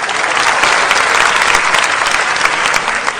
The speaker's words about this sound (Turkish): Alkışlarınızla yaşıyorum efendim.